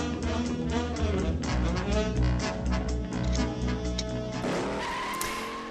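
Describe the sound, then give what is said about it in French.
In the 1968 film Bullitt by Peter Yates, a car engine starts and roars loudly and steadily, revving with a rough, throaty growl, then rises in pitch near the end as tires squeal and skid. No one speaks. “Ça y est, on l'entend démarrer.”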